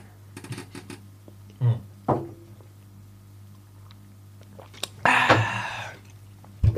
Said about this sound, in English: I thought you meant let them hear me sip my liquid. Because the thing was here when I was talking. Oh, say less. Sippity sip. Sippity sip.